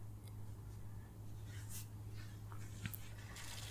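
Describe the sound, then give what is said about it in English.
Quiet, steady rush of cold shower water running continuously, with a low hum underneath and a few faint splashes and clicks scattered through. No one speaks. “The water is so cold.”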